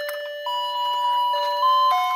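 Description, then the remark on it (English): A toy house doorbell, played by pressing its button, plays a bright, tinny electronic melody, its sustained notes stepping between a few pitches, loud and steady with no voices over it. “Does your small house have music too? The doorbell?”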